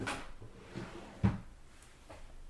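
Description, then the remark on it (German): Someone partly tumbling off a chair: a short series of knocks and scuffing bumps, with one heavier thud in the middle, without any talking. “Bist du gerade vom Stuhl gefallen?”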